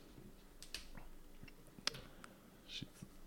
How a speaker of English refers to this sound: Are you typing something? Yes, I was looking up that Iwaju show.